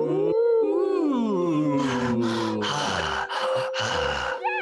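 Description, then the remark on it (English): A voice imitates deep, heavy breathing: a drawn-out, sliding vocal tone followed by several loud, breathy huffs in a slow rhythm, prominent with no talking. “That's the deep breathing. It was a callback.”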